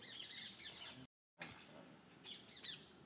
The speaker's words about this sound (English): I'm just recording these birds. They're flying over... They flew over the roof.